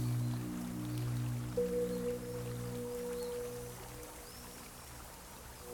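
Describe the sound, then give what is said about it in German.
Steady rushing, gurgling and splashing of flowing water, continuous, with a faint low hum running underneath and no voices. “Ich höre das Rauschen, das Strömen, das Glucksen und Spritzen.”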